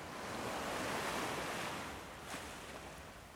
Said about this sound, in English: As the sounds of the ocean fade away, keep your eyes closed and let's see how you can listen for one more minute in silence.